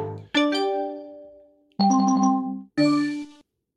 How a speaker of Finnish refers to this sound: Noin on Windows-ääniä, eikö se ole siitä PC-laitteesta? Siis PC-tietokoneesta.